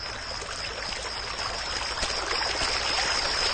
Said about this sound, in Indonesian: Jalannya sangat sepi ketika itu. Hanya terdengar saja air mengalir dari sungai itu.